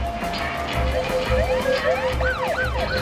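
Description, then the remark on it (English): The siren of a white police car coming up behind a car on a town street wails, its pitch sweeping up and down in quickening cycles over a steady low rumble of traffic and engine noise. “A white police car comes up behind him.”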